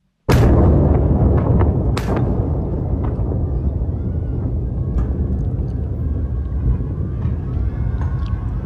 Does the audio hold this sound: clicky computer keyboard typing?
no